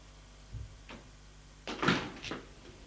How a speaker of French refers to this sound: Suis le couloir de la cave. Ouvre une autre porte.